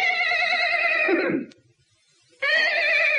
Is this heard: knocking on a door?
no